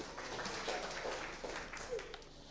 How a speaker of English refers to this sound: Thank you very much. Well done. Big round of applause for these two.